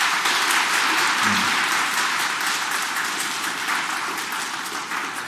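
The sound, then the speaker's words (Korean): A church parish audience applauds steadily for the elders of Taegeuk village, a dense wash of many hands clapping at a fairly loud, even level throughout, with a brief low murmur early on and no clear speech. “우리 건강하시라고 박수 한번 보내드릴까요?”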